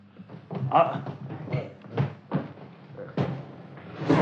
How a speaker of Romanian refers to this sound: Iaca, au zăvorât și ușa după noi.